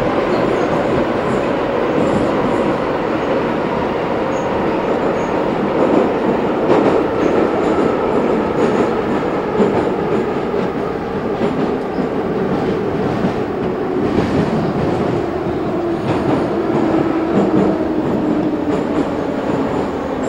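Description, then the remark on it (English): Loud, continuous roar of a Moscow metro train running through an underground tunnel, with rumbling low end, rattling carriage noise and faint wheel squeal, steady throughout with no talking. “Maybe we should be quiet for a few moments so people can enjoy the real Moscow subway feeling.”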